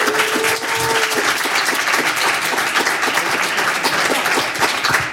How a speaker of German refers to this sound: Oder ich würde sagen, wir überbrücken das einfach mit einem vorfreudigen Applaus von unserem Studiopublikum. Sie haben doch total Lust auf Live-Musik, oder?